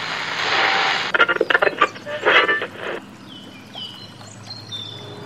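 A boat moving on water in the countryside: a steady rush of water, then a burst of choppy splashing, settling into quieter lapping with faint high chirps in the background.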